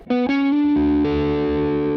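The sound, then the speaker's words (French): A distorted electric guitar plays a D major triad, the triad on the seventh degree of E, a quick pick-up note then sustained chord tones stacking in, loud, buzzy and steady with no talking over it. “Donc ce qu'on fait, c'est qu'en fait, on va jouer la triade du 7e degré de mi, donc la triade de ré majeur.”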